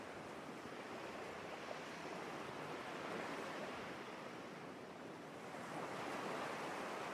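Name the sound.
ocean waves surging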